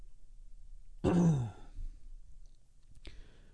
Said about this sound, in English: I'm going to be clearing my throat a lot. I'll try not to do it on mic.